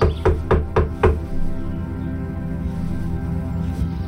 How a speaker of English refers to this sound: I wiped the sweat off my palms onto my pants and rapped on the door.